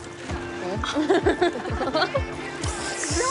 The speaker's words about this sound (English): They splash each other.